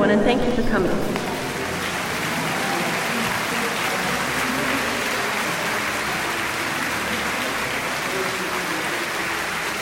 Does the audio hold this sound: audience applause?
yes